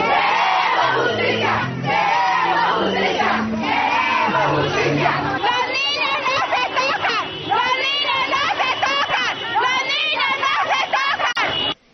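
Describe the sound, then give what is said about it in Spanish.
A protest crowd of families in the Santa Cruz neighbourhood, outside the Centro Infantil Pequeños Exploradores, shouts chants in unison, loud and continuous, with many voices rising and falling in rhythmic bursts of protest slogans until it cuts off abruptly at the end. “Eso era lo que gritaban allí, en este barrio Santa Cruz.”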